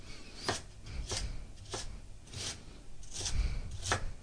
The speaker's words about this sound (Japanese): そしたら今細切りになったレンコンを横長に置いて、端から粗みじん切りにしていきます。